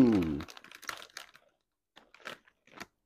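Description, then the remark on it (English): A brief voiced murmur, then crisp crunching of ridged dill pickle potato chips resembling Ruffles in several irregular bursts, loud at first and fading into quieter scattered crunches with short pauses between bites. “man, you guys are gonna hear so much crunching and chewing and swallow.”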